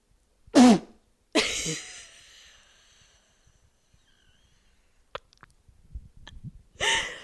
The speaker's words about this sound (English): My sneeze is so horrific. Oh my God.